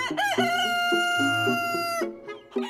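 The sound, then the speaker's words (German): The chief rooster of a chicken yard crows loudly, one long drawn-out call that rises, holds steady for about two seconds, then breaks off into a shorter ragged tail. “An meinem morgendlichen Krähen könnt ihr erkennen, wir sind Frühaufsteher.”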